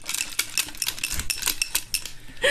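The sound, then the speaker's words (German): Gold metal carabiners, hung with a white pompom, a dreamcatcher, a rainbow and initials, jingle and clink against a shaken cup in quick, irregular bursts of bright, sharp chinks, moderately loud and continuous for a couple of seconds, with no talking. “Er klingt übrigens so...”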